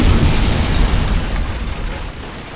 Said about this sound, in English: They were only about 50 meters away when the house exploded.